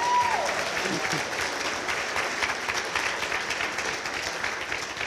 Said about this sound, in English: It's his 80th birthday tomorrow, so let's give him a round of applause.